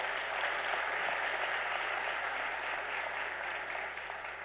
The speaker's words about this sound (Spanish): Bueno, después de estar corriendo mucho para hacer realidad esto, quiero primero que todo darles gracias a ustedes por estar acá. Les pido un aplauso para ustedes mismos. Gracias.